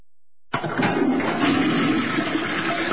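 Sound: toilet flushing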